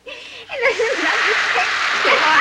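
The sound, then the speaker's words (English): A steady hiss of water spraying from a shower hose starts abruptly after a brief moment and keeps going as a person is drenched at a bathroom sink, with the person's wordless vocal sounds mixed in underneath. “They walk … to the bathroom sink and drench her with the shower hose.”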